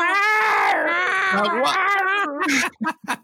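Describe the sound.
A person imitates cats yowling in heat, as a joke about a Bengals versus Jaguars football game, drawing out a long, wavering, whiny wail that rises and falls in pitch, then breaks into a few short, choppy bursts near the end. Loud.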